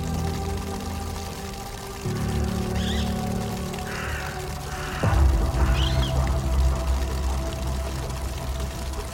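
Water runs steadily from a tap, the flow growing heavier partway through and louder again near the middle, with a few faint bird calls in the background. No one speaks.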